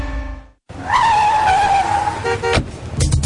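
A car's tires screech in a long, loud squeal, followed by a sharp crunching impact near the end, like a minor collision while parking. No voices.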